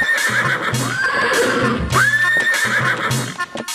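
A mare neighs loudly, with a high whinny rising then wavering, set against a dense, busy background of steady rhythmic thumps.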